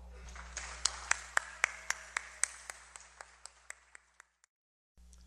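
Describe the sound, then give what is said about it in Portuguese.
Audience applause welcoming Professor Cláudio Corradi, coordinator of the music course at the USP Department of Music: a dense crackle of many hands with a few sharper claps standing out in a steady beat, tapering off after about four seconds into near silence. “que eu gostaria de chamar, o atual coordenador do curso de música, que eu gostaria que vocês recebessem também, com uma salva de palmas, professor Cláudio Corradi.”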